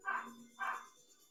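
At about 9:15, a dog barks twice in quick succession, two short, fairly quiet woofs about half a second apart, with a faint background hum and no talking.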